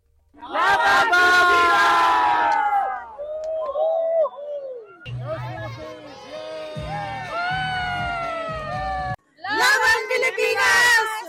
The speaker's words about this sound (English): Oo, at yung mga kababayan natin na talaga namang talagang hindi nagpatinag sa mga pag-cheer. Pakinggan natin ang bahagi ng mga cheers na nakuha mo